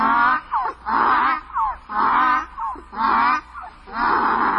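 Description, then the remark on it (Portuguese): A donkey, ears drooping and teeth bared, brays loudly and steadily, its harsh, rasping hee-haw cycling back and forth in a repeated seesaw rhythm of high and low tones for several breaths. “Quando me viu, foi murchando as orelhas, mostrando os dentes e começou a relinchar.”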